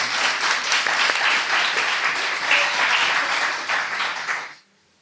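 A crowd applauds steadily, a dense wash of many hands clapping at an even level for about four and a half seconds before stopping abruptly.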